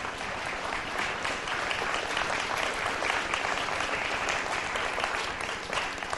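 A crowd claps steadily for several seconds, a dense, even wash of many hands with no pauses and no voices standing out.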